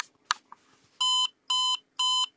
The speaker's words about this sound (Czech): Slyšeli jsme 4 tóny, které nám informovaly o tom, že powerbanka je nabitá někde v rozsahu 75% až 100%.